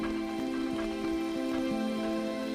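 Steady rain patters continuously in the jungle at night, with scattered heavier drops, layered over a low sustained tonal drone; no one speaks.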